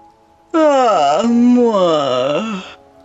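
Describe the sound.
A voice imitates a cow's yawn: one loud, drawn-out moaning call lasting about two seconds, its pitch sagging low in the middle before rising again, with nothing else heard.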